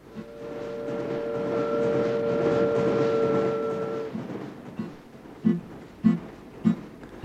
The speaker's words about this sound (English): There comes the hoot of the train.